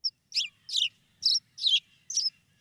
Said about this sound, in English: The song of the sparrow there.